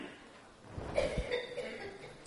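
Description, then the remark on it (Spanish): A brief, quiet nervous cough, a couple of short throat bursts in the middle of an otherwise hushed moment, soft. “Veo que empieza una tos nerviosa.”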